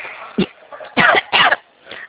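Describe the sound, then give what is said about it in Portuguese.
Three loud, harsh coughs, a short one followed by two longer bursts in quick succession, with a faint breath trailing after. “Oh, quando não boceja, tosse.”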